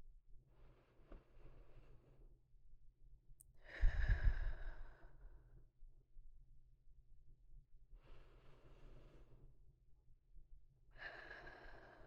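Slow, deep breaths come in an unhurried rhythm as someone calms their breathing, about four airy in-and-out breaths, each a couple of seconds long. One sounds heavier, like a sigh. No one speaks.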